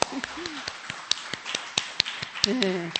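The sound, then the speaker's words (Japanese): Scattered hand claps from a church audience applauding the Joyce group once more, sharp and uneven rather than steady applause, with a few murmuring voices underneath and a brief vocal sound near the end. “もう一回拍手しましょう。”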